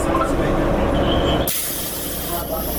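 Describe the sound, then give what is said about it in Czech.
Steady low engine rumble inside an uncrowded city public transport bus during the pandemic, then a sudden loud hiss of air bursts in halfway through and carries on over the droning vehicle noise. “Stižem gradskim prijevozom i ovo je jedan od retkih puta kada sam tokom pandemije uopšte koristila gradski prijevoz”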